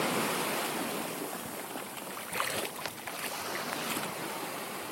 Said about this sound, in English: and just go for a little paddle by the sea, taking some of the waves and some of the calm of the sea. I thought I'd share that with you guys, for the people who don't live next to the seashore. So here's a few of the Worthing waves for you.